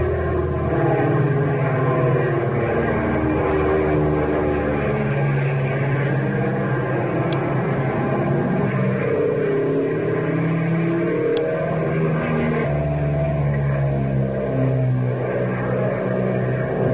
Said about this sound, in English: How do you like it? Oh, wonderful. What an engine, and she sure handles like a breeze. That's too fast for force control work. Not on your life. Watch. I'll change the pitch of the prop blades. We'll crawl right over the treetops.